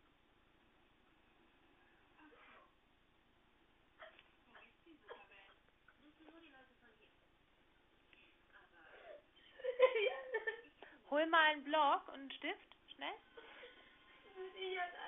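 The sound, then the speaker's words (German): A child cries and whimpers in wavering, sobbing bursts that grow louder in the second half, while an adult speaks quietly at the start. “hör auf zu weinen.”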